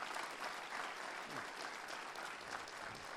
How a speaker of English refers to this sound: Dude, that's awesome. We can give a round of applause for that if you want to.